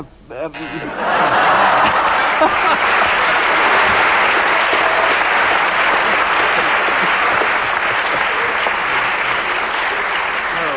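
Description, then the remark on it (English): Loud, sustained audience applause breaks out after a brief moment and continues steadily, a dense wash of clapping from many hands with faint voices and laughter mixed in. “I think the audience applause tells you that such a bizarre subject, you achieve miracles with it.”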